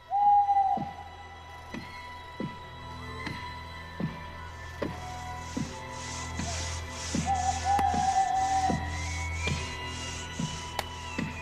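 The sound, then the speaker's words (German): A small owl hoots a few times in the treetops, drawn-out calls rising over a steady rhythm of sharp chopping knocks and a faint rasping sawing at a tree trunk, with no one speaking. “Bei Nacht und bei Mondschein, dazu ein Käuzchen in den Baumwipfeln, Sägen und Hacken am Stamm.”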